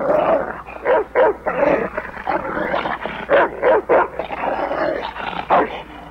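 A dog in Samuel Fuller's 1982 film White Dog (Dressé pour tuer), adapted from Romain Gary's Chien Blanc, growls and snarls steadily, breaking into a string of loud, sharp barks in uneven bursts, aggressive throughout, with no voices.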